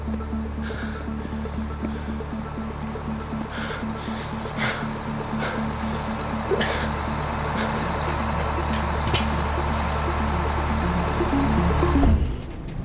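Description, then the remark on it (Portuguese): A bus drives the 241-kilometre route from Brusque to Curitiba with a steady, low engine drone and constant road rumble, broken by occasional rattles and clatters from the cabin. No one speaks, and the engine tone shifts slightly near the end. “3 horas e 30 minutos dentro do ônibus.”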